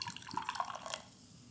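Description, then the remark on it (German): Beer glugs and splashes into a glass in a quick, bubbly pour lasting about a second, fairly quiet, then fades to a faint fizz. The beer is slightly cloudy and golden, with a nice head of foam. “Okay, ich gieße das jetzt mal ein, wir gucken mal die Farbe.”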